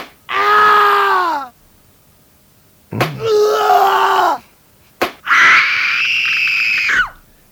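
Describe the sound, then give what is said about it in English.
A person screams and groans in three long, loud outbursts, each lasting about a second and a half, with sharp slap-like impacts just before the second and third cries and brief silences between. “You start off screaming at one point and you'll end up at another.”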